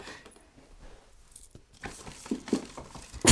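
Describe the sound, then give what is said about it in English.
Paper rustles and crinkles as someone gets out a pencil and paper, starting faintly and building into louder, irregular crackling bursts toward the end, with no voices. “Hold on, let me get my pencil and my paper.”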